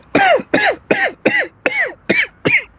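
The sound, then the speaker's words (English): A rapid run of seven loud, hacking coughs, evenly spaced about half a second apart, with no talking in between. “You know, you should really see a doctor if that cough continues.”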